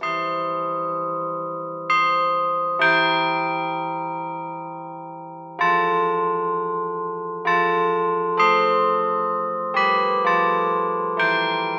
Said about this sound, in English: The cast bronze carillon features European cast bells, selected for their quality to make the melody line of a song clear, even from a distance.